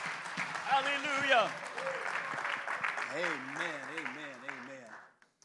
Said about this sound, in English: Let's just clap our hands again and give him praise.